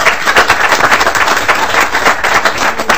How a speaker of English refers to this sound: Speaking of, we have ninth grade students from St. Louis Park High School. Welcome. I know we have, yes, let's clap. Let's clap.